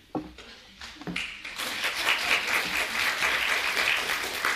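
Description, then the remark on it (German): An audience at an evening gathering bursts into applause for a speaker from the German Evangelical Alliance, starting with a few scattered claps that quickly swell into sustained, dense clapping from a large crowd, steady and fairly loud throughout. “Herzlichen Dank für den Applaus, aber wahrscheinlich muss es Sie enttäuschen, denn ich bin nicht gekommen, um hier lange zu sprechen, sondern ich bin gekommen auch, um zu hören.”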